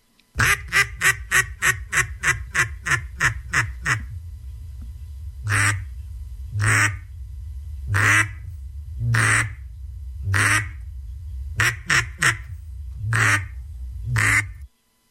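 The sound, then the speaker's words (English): Loud duck call blowing a rapid run of sharp quacks, then slower, longer drawn-out quacks spaced about a second apart, an imitation of a duck performed as a duck-calling contest routine, with no talking. “Here's contestant number one, duck calling routine.”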